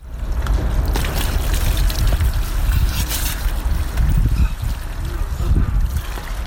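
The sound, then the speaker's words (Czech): Icy water runs and splashes steadily from a hose as people do their usual morning washing outdoors at one degree above zero at an abandoned warehouse where they live, a loud, continuous gush with wind buffeting the microphone and faint voices in the background. “Bio je to deo onoga što se može nazvati uobičajena jutarnja toaleta na jednom stepenu iznad nule ledenom vodom koja dotiče iz creva.”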